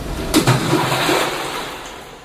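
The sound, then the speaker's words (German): A sudden splash as something drops into a well beneath a tree, followed by a brief wash of churning, bubbling water that gradually fades. No voices. “Ich bin direkt in einen Brunnen hineingeplumpst unter meinem Baum und ein unterirdischer Fluss hat mich über einen sprudeligen Wasserfall in ein kleines Seele gespickt.”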